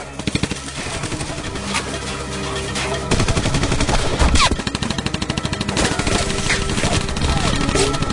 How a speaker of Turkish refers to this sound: Duvardaki tablolar, vitrin, kitaplar, televizyon, sehpanın üzerindeki sürahi, her şey paramparça oldu. İçeride duvarlar delik deşik oldu. Kıza doğru ateş ediliyor.